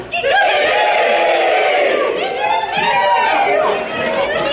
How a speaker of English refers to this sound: the official Game Days chant is Kikariki! Kevin, can you get that on film? One more time.